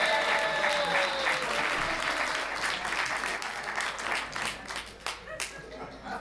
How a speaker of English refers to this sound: Give her a big hand clap.